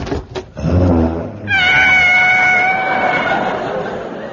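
A savage tiger being washed in a bath snarls: a low, rough growl rises into a long, loud, wavering high-pitched yowl that holds steady for several seconds before tapering off.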